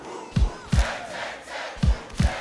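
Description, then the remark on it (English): A large crowd roars and shouts loudly in unison as a performer urges them to get louder, a dense wall of voices, while heavy bass thumps punch through in a steady beat, like a packed live concert. “Louder, louder, louder. One more time, louder”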